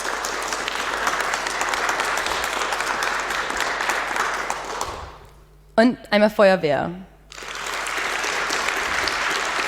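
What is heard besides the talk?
audience applause and clapping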